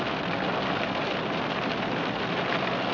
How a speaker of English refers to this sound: It's really coming down like cats and dogs.